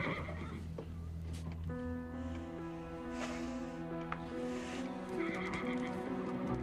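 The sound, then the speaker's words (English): A horse whinnies loudly, with long harmonic neighs and snorts, while faint hoof shuffles and clip-clops sound in the background of a stable where a person strokes one of the horses. “In the stables, Lydia strokes one of the horses.”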